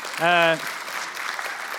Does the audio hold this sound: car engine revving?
no